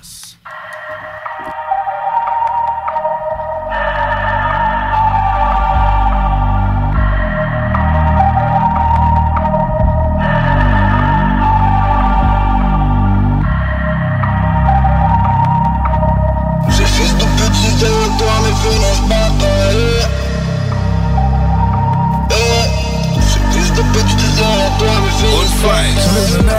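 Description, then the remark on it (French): A song from a music video plays steadily and loudly, with a pulsing bass line and repeating chord blocks in an even rhythm; about two-thirds through, the mix grows fuller and brighter with crashing cymbals. “la chanson du vidéoclip”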